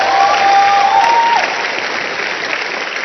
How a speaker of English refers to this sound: Everybody said, amen. Clap your hands for Jesus one more time.